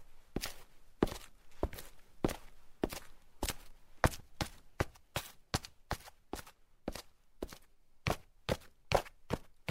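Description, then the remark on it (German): Footsteps walk along a street and then go down a flight of stairs, sharp clear steps landing in a steady rhythm of about two per second, with no voices. “Da haben wir gehört, dass der Mensch irgendwie auf der Straße langläuft. Dann ist er eine Treppe runtergegangen und dann ein bisschen weitergelaufen und wieder eine Treppe hochgegangen.”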